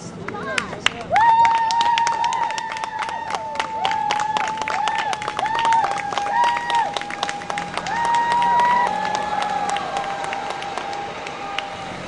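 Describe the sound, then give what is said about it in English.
A small group of fans cheers, claps and shouts in bursts, giving the U.S. women's soccer players a send-off as the team bus pulls away from the stadium after the game, while a sustained high-pitched tone, like a horn or a held chant, wavers steadily underneath for the whole stretch. “After the game, a small group of fans gave the U.S. players a send-off as the team bus pulled away from the stadium.”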